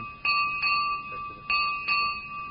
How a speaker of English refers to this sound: We need one bell and we hit it five times. That is all. It was only one bell. Hit five times.